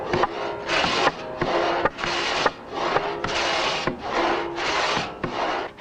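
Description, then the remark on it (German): A two-man pit saw, worked by a top man and a bottom man, rasps through the second half of a standing log in steady, repeated strokes, about eight harsh bursts with short pauses between, fairly loud with no voices. The saw cuts only on the downward pull and is lifted slightly off the wood on the upstroke. “Da die Säge nur auf Zug, also beim Niederfahren, schneidet, wird sie beim Heraufziehen geringfügig vom stehenden Holz abgehoben.”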